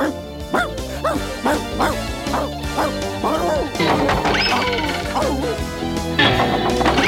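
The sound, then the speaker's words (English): A dog barks while running away, in a quick, excited string of yaps, about two per second, then breaks into higher yelps and whines over a busy, clattering background. “You come back here and stand trial like a good guilty puppy.”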